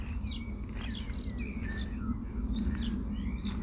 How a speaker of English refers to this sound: Spending a little bit of time noticing what you can hear. Be somebody passing on a bicycle. It could be bird song.